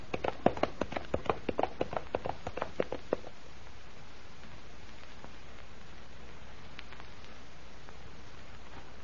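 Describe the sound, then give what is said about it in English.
Hooves of a horse galloping into the flames of a burning castle beat in a quick, steady rhythm for about three seconds, a dozen or so sharp thuds, then fade into a faint, quiet background. “The horse, he's going right into the burning castle.”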